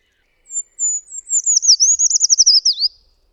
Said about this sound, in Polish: Piosenka Pełzacza Leśnego to trwający 2-3 sekundy wysoki, melancholijny trel o padającej tonacji ze żwawym, perlistym zakończeniem.